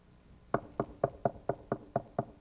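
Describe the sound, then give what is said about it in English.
Nine steady, evenly spaced knocks on a door, firm, in a regular rhythm about four per second, with no talking over them. “I dare say there's not many hearts that are not hearing that knock today.”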